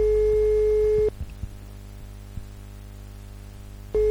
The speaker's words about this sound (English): Oh, it's like it's back to the BBS days, isn't it? Of course, with my lease line, I just don't know what a dial tone is.